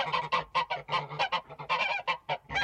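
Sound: geese cackling and honking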